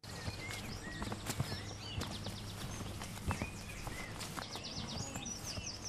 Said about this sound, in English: we begin with the sound of life on the land, on a beef and sheep farm.